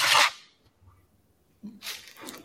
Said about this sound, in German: Hast hier du gerade ein Stück Papier für dein Kaugummi wieder rausgerissen? Kaugummi in den Mund gestopft. Achso, weil es kann schon passieren. Dann fehlt immer so ein Stück irgendwie aus irgendeiner Seite, weil du es für dein Papier benutzt.